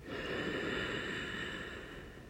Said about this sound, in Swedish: Så låt oss bara ta ett djupt andetag genom att slappna av i kroppen, slappna av i magen. Andas in genom näsan och fyll upp både bröstkorgen och magen med ny luft.